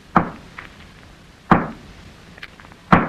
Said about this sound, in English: Hey, what are you doing with that hammer? Oh, that's what I'll rap on the wall with. Listen to this.